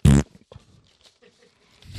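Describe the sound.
A short, loud, buzzy fart noise blasts at the very start, followed by near silence with faint scattered rustles before another loud burst cuts in at the end.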